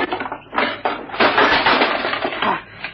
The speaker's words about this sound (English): Smash the lock with your spade, Jupiter. It's old and rusty enough. I must see what's inside. Yeah, that's done it.